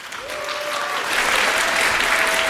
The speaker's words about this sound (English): Big applause